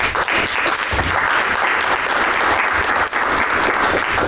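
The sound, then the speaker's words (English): Sustained applause from a large audience for a panel and its moderators, a dense, steady patter of many hands clapping at constant loudness for several seconds with no voices standing out. “All right, everybody, please give another huge round of applause for the panel and the moderators.”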